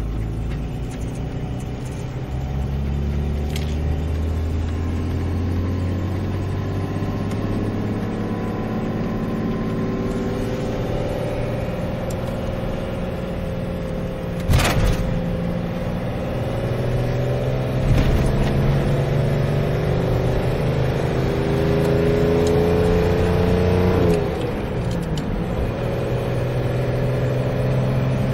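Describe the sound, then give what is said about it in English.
A car engine rumbles steadily, its low drone rising and falling in pitch as it revs, with a couple of sharp clicks or knocks along the way. “I like the sound of this car, man.”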